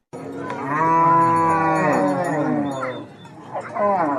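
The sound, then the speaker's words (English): A cow, one of several hundred cattle with pastoralists camped overnight at Kuburmandi Sin along the road on the eastern side of the Nile River in South Sudan, lets out a long, loud, drawn-out moo lasting nearly three seconds, followed by a shorter bellow near the end. “Pastoralists and their several hundred cattle settled into camp overnight at Kuburmandi Sin along the road on the eastern side of the Nile River.”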